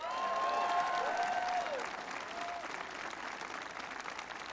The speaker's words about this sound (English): Give them a big round of applause. Yay. And there are two people who couldn't make it here today, but they're doing a great job, and you should give them a round of applause as well, and that's Senator Ron Wyden and Representative Kurt Schrader.